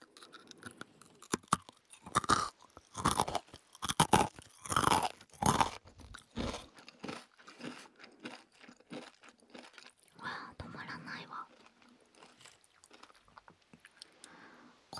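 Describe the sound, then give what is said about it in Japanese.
Loud, crisp crunching of classic nori rice crackers (senbei), with a burst of sharp bites early on giving way to steadier, softer chewing that continues irregularly to the end. “王道な海苔せんべいかな、醤油せんべいや。”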